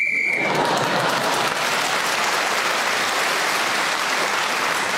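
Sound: game show whistle blown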